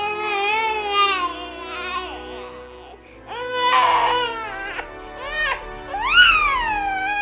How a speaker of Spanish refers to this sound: De repente escuché niños llorando.